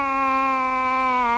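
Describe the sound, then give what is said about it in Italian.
A man whimpering and crying in despair in one long, steady, high-pitched wail, loud, with no other sounds or talk around it. “perché piange così lei?”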